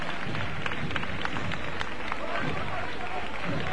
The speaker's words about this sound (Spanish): fíjense el aplauso del público congregado aquí a la puerta de Santo Domingo.